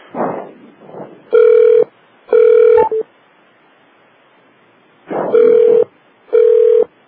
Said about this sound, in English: Wait for the phone to stop ringing.